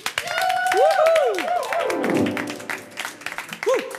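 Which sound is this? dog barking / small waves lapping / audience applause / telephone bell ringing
audience applause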